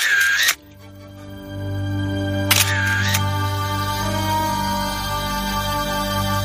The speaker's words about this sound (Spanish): decidió accionar el disparador de su cámara réflex